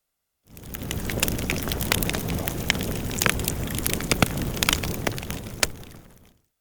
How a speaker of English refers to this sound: It's burning in the fire. The witches stand around the fireplace and watch the fire.